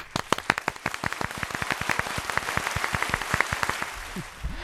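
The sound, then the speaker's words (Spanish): A small group claps for several seconds, giving the day's applause to Málaga: a dense run of sharp, uneven hand claps that stays fairly steady before tapering off, with no talking over it. “Venga, vamos a dárselo nosotros aquí mismo, nosotras mismas.”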